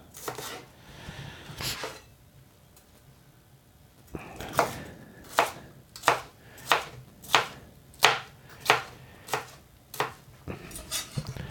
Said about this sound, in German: So, ich schneide die Paprika erstmal in Streifen. Und dann in Würfel.